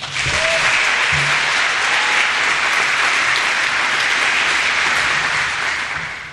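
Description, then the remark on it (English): A large audience claps steadily and loudly for several seconds for a cheer team, a dense wash of applause that stays strong throughout and eases slightly at the very end, with no speech. “Can we give a round of applause to our cheer team?”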